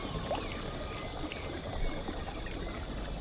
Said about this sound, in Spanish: A ver, ponemos el río, si quieres. Eso. Dale volumen.